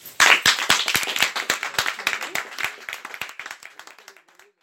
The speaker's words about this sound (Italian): Ok, ringraziamo tutti per aver partecipato e farei un giro di applausi.